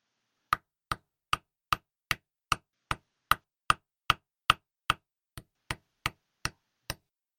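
hammer blows

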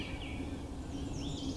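morning birdsong

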